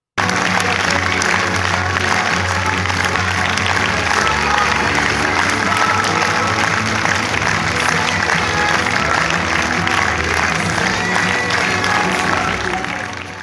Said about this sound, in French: Tonnerre d'applaudissements et une standing ovation de toute la salle qui était debout pour ce petit jeune